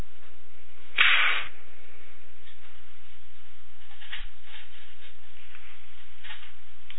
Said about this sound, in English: And your response? Slap him back.